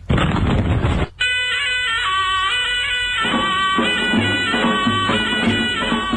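A single loud, rumbling ceremonial cannon shot marking the Nowruz new year fills the first second, then gives way to the Nowruznameh, bright, steady instrumental news music with sustained tones that announces the end of the old year and the start of the new.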